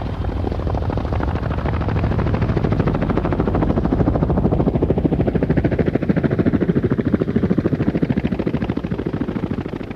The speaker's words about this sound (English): the turbines of the engine started to suck the CS gas inside of the chopper